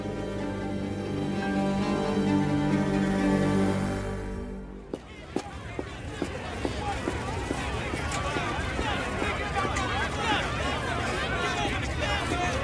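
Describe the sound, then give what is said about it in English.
A steady tonal hum fades out after a few seconds, replaced by a crowd of reporters chattering over one another in a dense, continuous babble, dotted with sharp clicks, in an audio drama of Stephen King's Strawberry Spring. “That crowd of reporters is about the last thing I need.”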